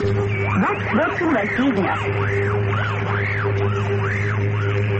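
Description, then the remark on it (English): A Voice of America shortwave broadcast, monitored in Moscow, buried under Russian jamming: steady electronic hum and drone with repeated warbling, arching whistles sweeping up and down about once a second, loud and continuous, with muffled voice-like sound beneath. “Knew it because of the expensive and elaborate measures the Russians took to jam those broadcasts, to ring down a curtain of static.”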